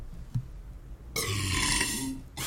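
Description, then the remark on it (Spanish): A loud, drawn-out burp erupts after a brief quiet moment, rough and gurgling for over a second, followed by a short noisy burst at the end. “Tú sí me pusiste a mí mi eructo, man.”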